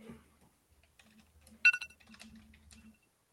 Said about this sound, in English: Let's see if I can find my alarm sound. Like, you would have hated what it used to be. Yeah. Okay, this is my alarm sound now.